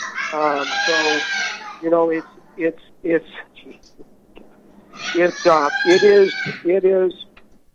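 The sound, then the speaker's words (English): A pet parrot squawks loudly: two long, harsh, wavering calls separated by a run of short, choppy squawks, with no talking. “So the parrot is a mess.”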